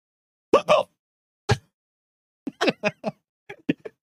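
A string of short, abrupt hiccups, roughly eight sharp vocal bursts at uneven intervals, fairly loud, with quiet gaps between them and no talking.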